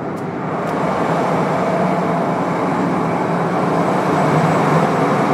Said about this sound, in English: So what kind of engine is it? It's a Merlees Blackstone engine, about 500 horsepower each. We've got two of those, so one engine works each fourth unit.